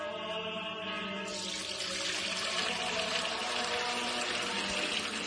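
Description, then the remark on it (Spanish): Water pours steadily into a container, a continuous splashing rush that grows brighter and fuller after the first second, with faint harmonic ringing as the vessel fills. No voices. “es que no nos quedaba agua bendita. Agua pura de manantial Fuente Umbría.”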